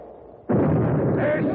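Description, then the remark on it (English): After a moment of low background hum, a single starting cannon on shore fires with a sudden, loud boom as the starting flag reaches the bottom of the pole, followed by a heavy roaring rumble that carries through to the end. “When the flag gets to the bottom of the pole, the fire of the cannon will be on our way.”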